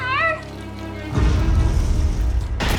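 sound effect, explosions

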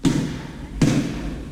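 impact, basketball being dribbled

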